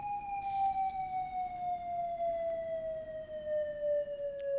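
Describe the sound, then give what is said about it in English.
A demonstration of a nuclear attack warning siren, the old World War II air raid siren signal, sounds one long, sustained wailing tone that sinks slowly in pitch over a few seconds, loud and steady above a faint background hiss, with no voices. “At this point in time, I would ask our technical guys to sound the demonstration of the attack warning siren.”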